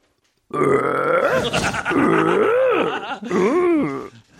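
A long, loud, croaky burp held for several seconds, its pitch rising and falling in a wavering, almost tune-like way, with no talking.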